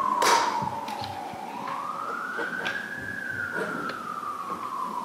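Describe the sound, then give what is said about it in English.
A wailing siren from an ambulance or fire engine going by outside a courthouse sweeps slowly up and down in pitch, heard from outside, steady and continuous with faint traffic rumble underneath. “We hear ambulances and fire engines going by every day, many times during the day.”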